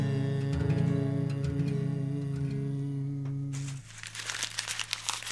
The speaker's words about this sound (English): Again, and hear the pitter patter, pitter patter, pitter patter, pitter patter, pitter patter, pitter patter, pitter patter of the rain.